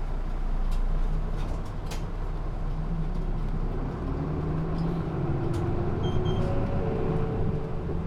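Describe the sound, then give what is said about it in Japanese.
A Rinko Bus city bus engine runs with a steady low rumble as the vehicle departs on a rapid service bound for Kawasaki Station, its engine tone rising slightly while road noise fills the background. “発車します。”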